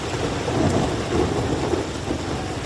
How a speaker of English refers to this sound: The sound of thunder has taken over the London skyline as tourists in London's Camden neighbourhood ran for shelter as rain poured down. The storm comes after a summer of unusually warm and sunny weather in England and its capital.